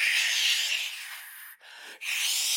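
Snowstorm noise while walking through a big snowstorm on a cold January 14th, 1978 in Rostov-on-Don, Russia, toward the Oktaya Brononik Sports Complex: a steady, bright, airy hiss of wind-blown snow that fades slightly, then cuts out briefly twice before surging back. No voices are heard.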